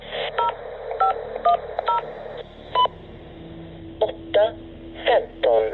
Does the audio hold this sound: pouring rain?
no